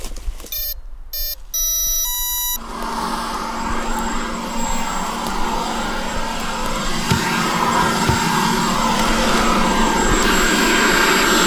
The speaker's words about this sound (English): We have our 12-volt battery in here, and a fan, and it creates suction. And I'm going to turn on this very loud aspirator and go around and vacuum out the boxes, and we'll carry it all back out to the car. All right, cover your ears.